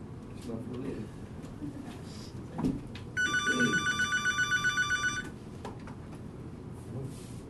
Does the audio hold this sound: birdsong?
no